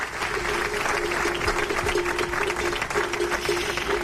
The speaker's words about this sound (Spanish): Y así aplaudían hoy los agricultores tras el manifiesto que se ha leído en la concentración a las puertas de la subdelegación del Gobierno.